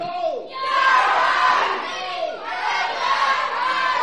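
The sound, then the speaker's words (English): A big group of children shouts "Heave-ho!" together in two long, loud bursts, their voices merging into one enthusiastic chant. “You might need to give this an example for heave-ho or Captain Yo-ho. Heave-ho!”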